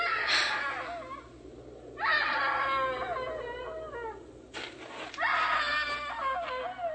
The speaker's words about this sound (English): Hey, screaming woman! Why didn't you scream before? Why didn't you scream so Daddy could hear you?